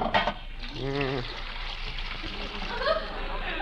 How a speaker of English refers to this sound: Now, I pour the dyes into this boiling water.